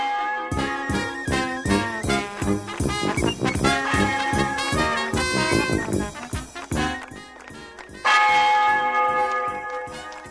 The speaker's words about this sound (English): Ring out the church bells.